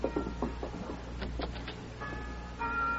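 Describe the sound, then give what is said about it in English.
A mission church bell rings, a few metallic strikes in quick succession over lingering, sustained tones and a low background rumble, fairly quiet overall. “The mission bell. Open the door, Mary, so we can hear it better.”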